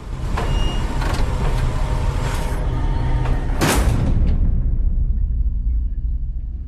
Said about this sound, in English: The taxi pulls into a large garage space full of battered cars and stops.